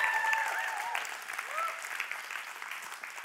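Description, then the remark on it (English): A church audience breaks into steady, moderately loud applause for a sermon series, a dense patter of many hands clapping, with a few brief whistle-like tones rising above it early on. “I needed a drink, so I had to figure out how to get you guys to clap.”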